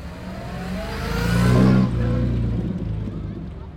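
A vintage sports car from before 1960 revs its engine on Grand Avenue in Paonia, its throaty growl climbing to a loud peak around midway, then dropping back to a steady rumbling idle.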